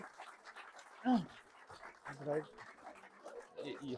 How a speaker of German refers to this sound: Jawohl, schön, dass du einen Hund mitgebracht hast, um dich beliebt zu machen.